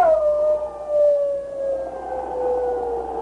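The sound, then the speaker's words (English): A man imitates a shrill wolf howl while waving a burning pine branch over his head on a slope below a mining camp: one long, sustained, wavering cry that slowly slides downward in pitch, loud, with no talking. “Then he set fire to the pine branch, waved it over his head, and at the same time gave voice to a shrill wolf howl.”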